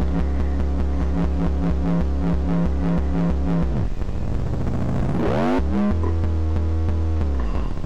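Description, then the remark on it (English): A synthesizer, its dials adjusted, imitates a motorcycle engine with a steady, throbbing buzz that dips, then revs up in a rising sweep before settling back into a loud, continuous idle. “Well, if you do that with this one, it makes a motorcycle.”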